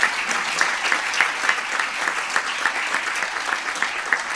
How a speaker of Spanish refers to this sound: Pues suben al escenario también estos cuatro premiados más. Vemos sus nombres reflejados en la pantalla que está tras el rector en este escenario. El aplauso para ellos.